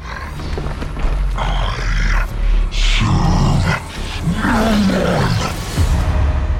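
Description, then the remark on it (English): A deep, snarling monster voice for the character Idol, made from a recorded voice morphed with a dog's growls and a couple of other sounds, rumbling in heavy low bursts with a rasping, roaring texture and wavering pitch, continuous and loud throughout with no speech. “I would take that recording and morph it with my dog's growls and a couple of other things to give it a lot more body, a lot more presence.”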